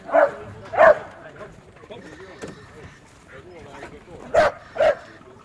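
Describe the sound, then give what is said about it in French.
A dog barks loudly in two quick pairs, sharp mid-pitched woofs at the start and again near the end. Between them there is a quiet stretch of low background murmur. “Écoute. À la niche.”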